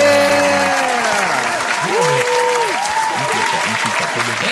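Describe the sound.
A crowd applauds with steady, dense clapping that holds loud through the whole stretch, with tonal sliding sounds and faint voices running underneath.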